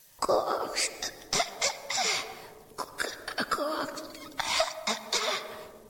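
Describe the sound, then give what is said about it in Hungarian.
A voice tries to imitate a frog's croak, but it comes out as a string of rough, cough-like bursts, fairly loud, repeated irregularly with brief gaps. “Ágacska figyelt, és buzgón igyekezett. Úgy hangzott, mint a köhögés.”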